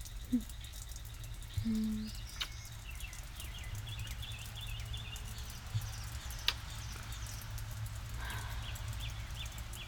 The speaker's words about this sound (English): Oh, some birds are chirping. Wonder what they're going on about. Yeah, they probably got their feathers wet. Yeah, maybe they're arguing over who tracked mud in the house. Yeah, by the way, the answer's you. They're really going at it though.